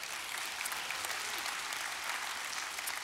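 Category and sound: crowd, audience clapping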